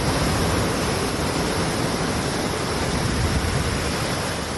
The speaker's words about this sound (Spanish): desde luego, todos tenemos en la cabeza las imágenes tremendas que estábamos viendo en Herrera de los Navarros, en la provincia de Zaragoza. Así ha caído el agua durante una hora interminable, convirtiendo las calles en lo que escuchas, en ríos.